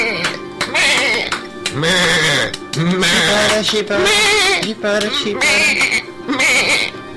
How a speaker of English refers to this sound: It's a wave. It's a wave of sheep. We're being dominated by a wave of sheep.